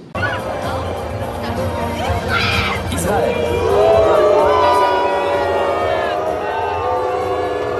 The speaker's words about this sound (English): Israel was at the Olympics, and it's good to see that on their boat, because they all came out on boats, they got booed.